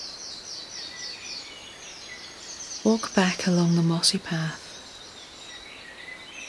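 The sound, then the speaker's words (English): Birds chirp and twitter steadily in a forest setting, soft high calls repeating throughout, while a calm voice speaks briefly in the middle. “Listening to the birdsong, until you reach a clearing in the trees again.”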